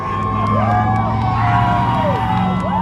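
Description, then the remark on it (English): A dense crowd lining the sidewalks at an event against police violence toward African Americans cheers and whoops continuously while waving signs as passing cars honk in support, many voices overlapping with rising and falling shouts over a steady low rumble, loud throughout. “The event started with somber reminders of police violence against African Americans, then took on a joyous mood as the crowd lined the sidewalks, cheering and waving signs as passing cars honked in support.”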